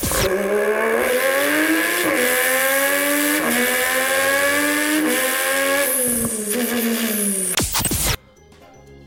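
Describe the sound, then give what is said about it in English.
A person imitates a Formula One car with their mouth, in a car-or-mouth quiz: a loud, buzzing engine whine that climbs in pitch through several gear-shift steps for about eight seconds, then cuts off abruptly. No one speaks. “These are people who do impersonations of Formula One cars.”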